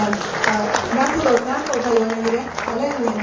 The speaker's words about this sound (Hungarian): Ennek örvendezünk, és egy tapsal fogjuk megköszönni.